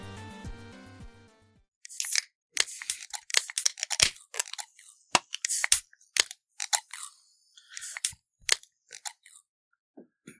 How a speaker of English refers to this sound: Just opening all the cans. A plethora of cans.